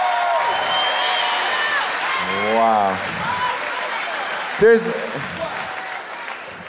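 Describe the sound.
Steady audience applause fills the whole stretch as a broad, continuous wash of clapping, with a man's voice speaking briefly over it and a short loud exclamation near the end.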